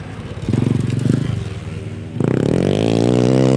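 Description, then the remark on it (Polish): A speedway motorcycle engine revs in two bursts at a speedway training track in Lublin, Poland, first a rough, pulsing idle-like rumble, then after a brief dip a louder, steadily rising rev with a buzzing harmonic whine, continuous. “Poza tym jest troszeczkę cichszy, więc jest, można powiedzieć, troszkę wykastrowane.”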